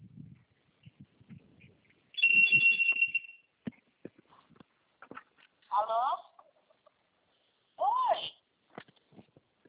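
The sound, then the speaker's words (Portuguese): A woman's phone rings with a bright electronic ringtone: first a sustained high beep, then two shorter warbling, melodic bursts a couple of seconds apart, with faint speech murmuring in between. “Ai, o telefone da moça que eu estou olhando está tocando.”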